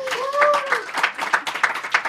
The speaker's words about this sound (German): Und danke an das Publikum. Und vielleicht könnten wir den Applaus noch einmal hören für das Mikrofon.